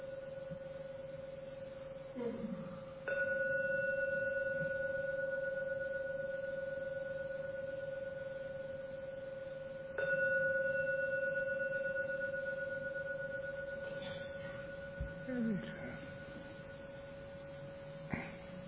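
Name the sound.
meditation gong ringing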